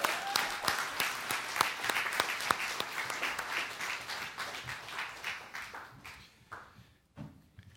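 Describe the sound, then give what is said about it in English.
A church audience claps together in dense, steady applause as praise during a Resurrection Sunday morning worship service, sharp individual claps standing out, then the clapping thins and fades near the end. “Can we just give him the praise that he is due with a clap of praise to him?”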